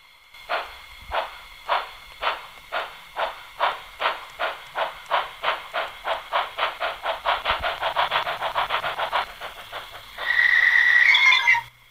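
An old steam locomotive, sounding like one from a western film, chugs in rhythmic puffs that speed up steadily, then ends with a loud hissing release of steam and a high squeal as it brakes. No one speaks.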